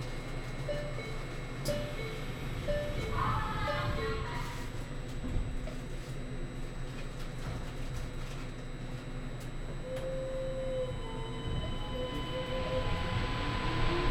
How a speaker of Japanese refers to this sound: 本日もシーサイドラインにご乗車いただきましてありがとうございます。この電車は新杉田行きです。次は野島公園です。